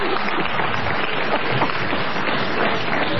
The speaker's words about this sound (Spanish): ¡Que aplauden!